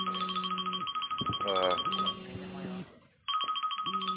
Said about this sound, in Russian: Это чьи-то... Это кто-то... Что-то звонит ваше.